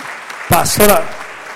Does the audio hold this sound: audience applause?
yes